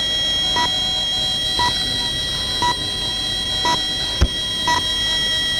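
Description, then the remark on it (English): Five short, identical high-pitched RTE Radio time-signal pips for 10 o'clock sound one second apart over a steady background hiss, with a brief click just before the last pip. “That was the time signal for 10 o'clock”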